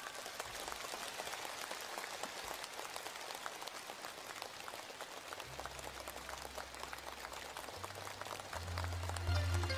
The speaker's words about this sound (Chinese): 现在让我们用最热烈的掌声恭请尊敬的卢俊宏台长。